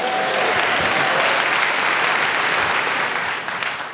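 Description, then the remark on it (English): A crowd claps steadily and densely in applause for journalism, the applause staying loud and even before easing off slightly near the end, with no voices rising above it. “Okay, I've never heard journalism applauded before, so thank you.”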